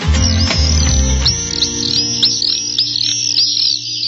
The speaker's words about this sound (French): Des petits oiseaux pour nous accompagner en ce dimanche matin.